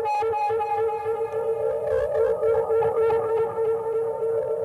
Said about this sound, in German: Und erstmal spiele ich so eine Butzmannsche Rückkopplung an.